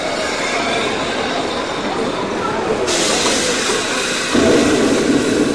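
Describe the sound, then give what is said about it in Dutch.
A steam locomotive of the Veluwe steam train between Apeldoorn and Dieren, Netherlands, hisses and rumbles at a small station as one train arrives while another has not yet left, a steady roar of steam that swells suddenly partway through, then thickens with a deeper rush near the end. “Soms zelfs is het druk op zo'n klein station, als de ene trein er alweer aankomt, terwijl de andere nog niet is vertrokken.”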